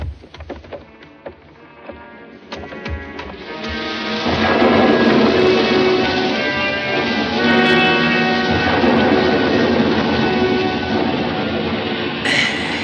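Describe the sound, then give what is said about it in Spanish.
A storm builds at sea as a ship sails through it, with scattered cracks and low rumbles of thunder giving way to a loud, steady roar of wind and rain that fills the rest of the scene. “El barco navega bajo la tormenta.”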